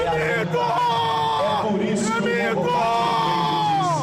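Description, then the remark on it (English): A loud crowd cheers at a political rally in a gym next to the Maracanã football stadium in Rio de Janeiro, Brazil, people wearing the colors of the Brazilian flag cheering for President Jair Bolsonaro, calling him the Messiah and the myth, many voices yelling and whooping together in a dense, continuous roar that rises and falls in waves. “Inside, crowds wearing the colors of the Brazilian flag cheer for President Jair Bolsonaro, calling him the Messiah and the myth.”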